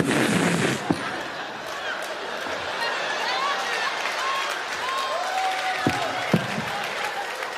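Fireworks going off amid a noisy crowd: a burst of hissing, then whistling streaks and a few sharp, scattered bangs over steady cheering and chatter.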